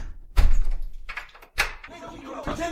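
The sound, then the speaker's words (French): A door at the back of a room is pushed shut with a heavy thud, followed a second later by a sharper clunk as it is locked with a key, with some faint rattling in between. “Après une seconde d'hésitation, il va vers la porte du fond et la ferme à clé.”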